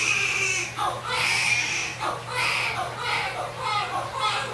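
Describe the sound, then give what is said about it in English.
A newborn baby cries during his first bath in repeated high, wavering wails with short gasping breaks between them, loud and continuous over a steady low hum in the background. “This is the sound of baby's first bath.”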